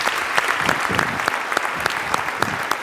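Steady audience applause fills the whole stretch, a dense wash of many hands clapping with sharp individual claps popping out, fairly loud, with no talking over it.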